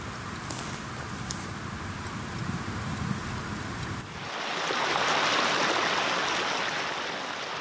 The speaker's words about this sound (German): Von hier aus kann ich schon das Wasser sehen, das aus dem schmelzenden Schneefeld fließt und sich langsam zu einem reißenden Gebirgsbach vereint.